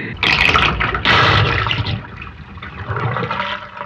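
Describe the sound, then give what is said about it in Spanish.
A loud rush of water surges in, swells, then settles into a steady gurgling flow, continuous like a flush pouring through a pipe, with no voices. “Estaba muy quitado de la pena acostumbrándome a la oscuridad, cuando de pronto, una corriente de”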